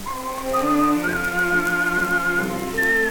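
A man whistles a lilting tune while walking along, in long, sustained notes that slide between pitches, loud, over a soft hiss of background noise.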